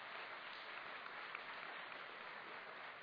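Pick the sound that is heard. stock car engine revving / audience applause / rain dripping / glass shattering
audience applause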